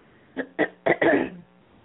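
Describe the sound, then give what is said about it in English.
A person with something caught in the throat coughs four times in quick succession, the final cough longer and rougher than the first three, with no talking around it. “I could play something in there while I'm coughing.”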